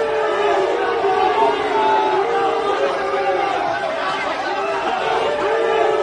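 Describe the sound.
A dense crowd of fans shouts and cheers continuously outside the hotel door in Barcelona to welcome Cristiano Ronaldo arriving with Juventus, many overlapping voices rising and falling at steady loudness, with scattered clapping mixed into the din.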